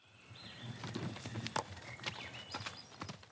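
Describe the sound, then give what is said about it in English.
Hooves of the Nez Percé's horses clip-clop in a steady, uneven rhythm as they head for Canada, several sharp knocks over a soft background hiss, with no one speaking. “Their horses carry them almost 2,000 kilometers.”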